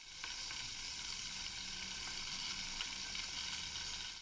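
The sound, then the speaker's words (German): An electric kettle rushes steadily as the water heats, a dense, even hiss with faint crackles and occasional soft ticks running throughout, with no one speaking. “Warum machen Wasserkocher so einen Lärm? Einige Zeit nach Beginn des Kochvorgangs beginnt ein ganz charakteristisches Rauschen.”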